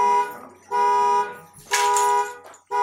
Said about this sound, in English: Somebody's alarm is going off.